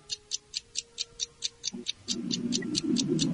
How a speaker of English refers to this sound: Go to your microwave. Okay. Let's hear the timer on the microwave go off. So set it for 1 second.